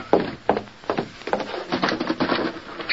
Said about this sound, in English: I'll close the door.